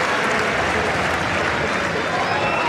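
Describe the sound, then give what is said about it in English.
A crowd applauds steadily for a few seconds at a tennis match between Novak Djokovic and Cerundolo, after a running forehand winner from Cerundolo, a dense, even wash of clapping that holds at the same loud level from start to finish. “It's the best shot that he's hit so far in this match, and Novak Djokovic sportingly just turning to applaud him.”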